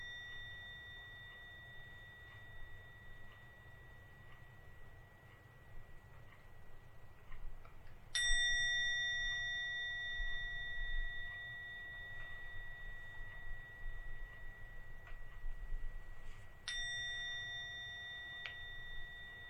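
A meditation gong is struck twice at the end of a meditation, about eight seconds apart, each strike ringing out with bright, sustained tones that hang and slowly fade over a low, steady background hum.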